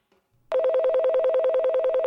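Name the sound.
studio telephone ringing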